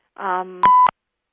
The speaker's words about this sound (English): I think I just heard a beep, Ron. Are we taking calls tonight?